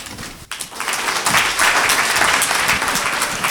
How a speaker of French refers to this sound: Vos applaudissements pour les élèves de Georges de la Tour.